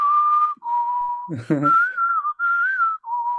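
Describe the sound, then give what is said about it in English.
A person whistles the whistle solo of a song, clear sustained tones gliding between notes, with a brief voiced or hummed interruption in the middle before the tune continues. “Yeah, good whistling, mate.”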